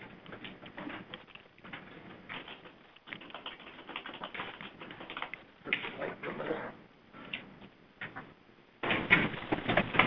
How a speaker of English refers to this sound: Quite a paper cutting exercise.